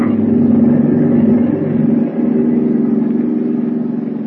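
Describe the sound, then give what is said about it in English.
A submarine's engines running at full speed as it rises toward the surface: a loud, steady drone with a deep rumbling hum and strong low tones, holding constant throughout with only a brief dip midway, heard alone without any voices. “Start the motors. Hurry. Engine room. Full speed ahead.”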